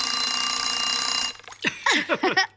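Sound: alarm clock ringing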